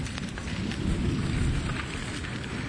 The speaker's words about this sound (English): Boy, I love the sound of that thunder. Isn't that wonderful? Thank you, Lord, for fulfilling your word.